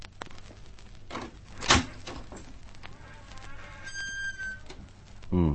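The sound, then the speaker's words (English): A door is rattled and worked open, with a sharp clack of the latch, some scraping and creaking, and a final thump as it gives way. No one speaks. “Try the door.”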